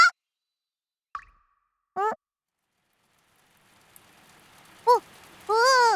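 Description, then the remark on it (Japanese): A few scattered plopping drops fall, then a soft hiss of rain swells in and steadily thickens, with some squeaky chirping tones over the top near the end. “うん、雨だ。走ろう 走ろう。”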